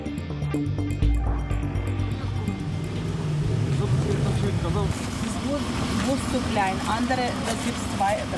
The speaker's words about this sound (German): Es ist ein Bus, ja. Aber es ist ein Kleinbus, in dem der Fahrer da gerade 5 Koffer und 6 Taschen mit Geschenken im Kofferraum verstaut. Nie im Leben hätte ich gedacht, dass das alles reinpasst. Aber es geht.